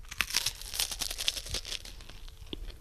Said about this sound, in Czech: Do Zlatova upečené, připravené placičky. Jsou to ty placičky a přitom je to ten semenec. Určitě semenec, žádné placičky. Takže semenec. Semenec bude křupat.